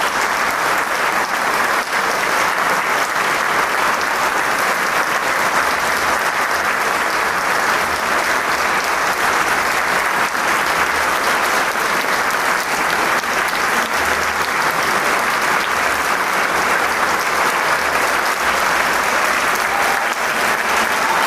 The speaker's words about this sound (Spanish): Continúa el aplauso, no cesa. Es que también es el último concierto, el décimo concierto de Camerata de Coahuila. Y este coro del Instituto de Música de Coahuila agradece también al público esta amabilidad de su aplauso.